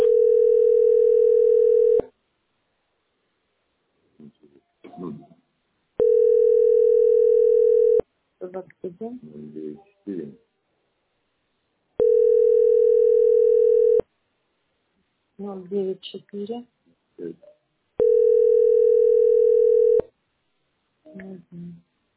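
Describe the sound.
A steady telephone line tone, heard while on hold, sounds in four long, even beeps of about two seconds each, with a voice speaking briefly in the gaps between them.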